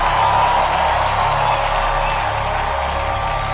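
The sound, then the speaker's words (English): An audience claps and cheers together to give the Lord a hand, a steady, dense wash of applause with scattered shouts, holding at an even, fairly loud level for a few seconds. “Give the Lord a hand, somebody.”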